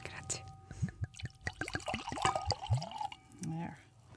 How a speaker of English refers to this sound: And this is a wonderful Orvieto that we're pouring here